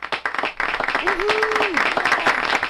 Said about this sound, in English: I think my friend Jim Barrier was right last week. This applause sounds like somebody on a golf course that made a putt.